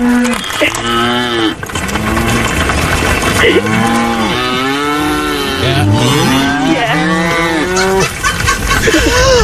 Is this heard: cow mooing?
yes